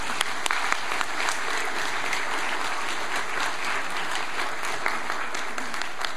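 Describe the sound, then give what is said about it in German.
An audience claps steadily for several seconds to honour a care service's first senior client, cared for since 1 April 2009: a dense, even wash of many hands with sharp individual claps popping out, holding a fairly constant level throughout with no voices on top. “Ich denke, das ist ein Applaus wert.”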